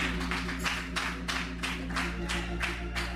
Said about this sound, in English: Somebody clap your hands and give the Lord a hand clap.